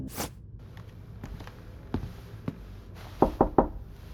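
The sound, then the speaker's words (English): A few scattered taps and thuds, then three quick, firm knocks on a door, sharp and evenly spaced, with no voices. “Should I knock on the door or just listen for a while?”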